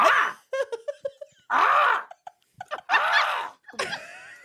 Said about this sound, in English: That's American Crow.